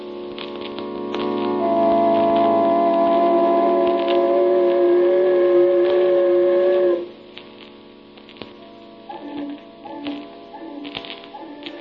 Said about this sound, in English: Does the mournful sound of the foghorn haunt your dreams of a rainy night in March, when the rain and the fog conspire to teach us what blackness